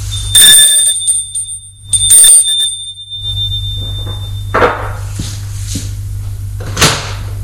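A doorbell at an apartment door on an upper floor of a building rings twice, each bright metallic ring leaving a high sustained tone, followed by a low steady hum and a couple of soft knocks and rattles like a door being handled.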